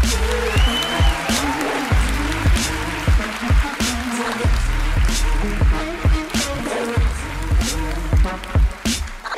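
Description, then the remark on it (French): A crowd claps steadily for several seconds to welcome a co-host, a dense wash of hand claps with a brief whistle early on and some low voices mixed underneath. “Veuillez applaudir ma co-animatrice”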